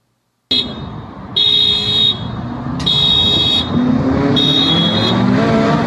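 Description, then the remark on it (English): A loud vehicle roars while buzzing a shop as several electronic car alarms blare in repeated bursts of high, steady tones, overlapping and restarting every second or so against the rumbling engine noise. “Setting off all the alarms.”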